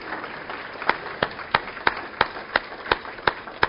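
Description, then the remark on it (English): Audience applause for guest presenters being thanked: a soft wash of clapping with about nine sharp, evenly spaced claps ringing out above it in a steady rhythm, moderately loud, with no speech. “Why don't y'all give them a round of applause?”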